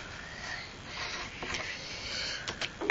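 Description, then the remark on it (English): A single short, sharp sneeze bursts out near the end, following a stretch of soft, hissy background noise with a few faint sniffs or snorts and no talking. “Bless you.”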